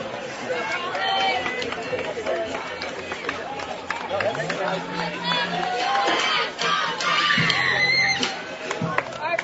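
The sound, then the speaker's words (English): A softball crowd at a Washington County versus Columbus game cheers and chatters steadily throughout, a dense busy roar with occasional whoops and shouts rising above it, after a ground out in the top of the second inning, while a voice talks over the noise. “And the ground out and the crowd alike making some noise here for Briley Margist as she looks to give a leadoff runner here for Washington County in the top of the second.”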